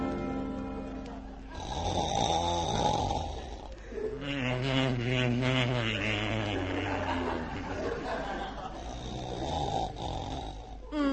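man snoring

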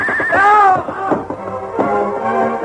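horse neighing

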